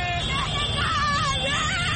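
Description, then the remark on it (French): A dense crowd of Senegalese supporters in the streets cheers and shouts with joy to welcome the Lions of Teranga, 2021 Africa Cup champions, many excited voices overlapping in a steady, loud roar with occasional higher wavering cries rising above the din. “Ou plus simplement, cris de joie.”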